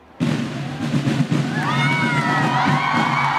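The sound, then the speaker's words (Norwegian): A crowd bursts into loud, sustained cheering as Ari Behn arrives at Nidarosdomen in Trondheim for his wedding, with many overlapping voices and high shouts and whistles rising above the roar, which keeps going without pause. “Ari Behn ble møtt med voldsom jubel da han ankom Nidarosdomen noen minutter før sin brud.”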